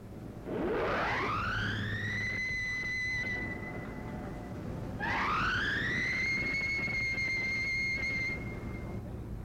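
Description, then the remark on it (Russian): A ship's siren is tested by the boatswain before the ship casts off, with two loud blasts, each winding up from a low growl to a high, steady wail with strong overtones before cutting off. No one speaks. “Проверьте сирену, боцман. Есть проверить сирену.”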